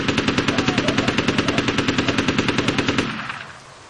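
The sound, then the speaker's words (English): A sustained burst of rapid automatic fire from an M16 rifle, about three seconds of fast, evenly spaced shots, loud, then a short fading echo with no voices. “Only one animal escaped the unexpected burst of gunfire, and it turned tail and ran back toward the huntsman.”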